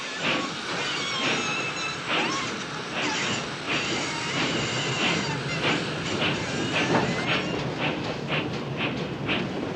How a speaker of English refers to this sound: She grabs her bag and marches furiously to the train. Dillon watches as she climbs aboard and the train starts to roll.